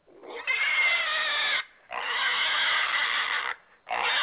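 pig squealing and oinking

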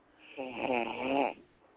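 person snoring

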